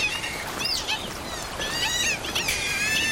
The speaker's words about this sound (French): Je reconnais ce cri qui se situe entre la porte qui grince et le chat qui miaule. Ça serait une loutre d'Europe que ça ne m'étonnerait pas.